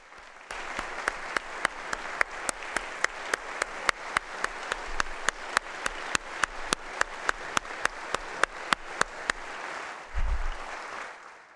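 A crowd applauds for about ten seconds to cheer a young apprentice who stands, a dense wash of clapping with steady, sharp rhythmic claps cutting through, ending in a brief low thump as it fades.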